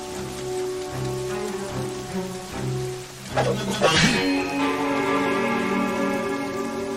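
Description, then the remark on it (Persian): Steady rain falls throughout with a constant hiss, layered over a low sustained tonal drone, and a brief louder splashing burst partway through. “بدون ژاکت نگه زیر بارون میچای پیر مرد.”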